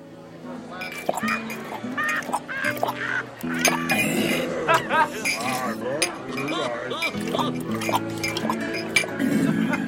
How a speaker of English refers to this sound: Captain Crossbones and Parrot stay in New Providence. The captain sits in a tavern and drinks rum.